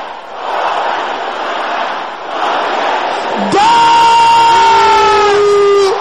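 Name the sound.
audience shouting loudly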